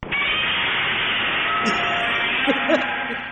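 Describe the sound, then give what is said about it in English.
A Godzilla roar sound effect: a harsh, hissing, sustained screech that stays loud for over three seconds, with faint wavering tonal cries rising inside the noise near the end. No one speaks. “Godzilla roar. Oh yeah, that's it.”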